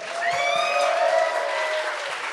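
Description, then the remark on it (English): A whole tavern crowd applauding a man hailed as the best hooker in town: steady, dense clapping that fills the whole couple of seconds at an even loudness, with a few sustained voices whooping and cheering over it. “Yeah, when a whole tavern applauds you being a hooker, you just take that.”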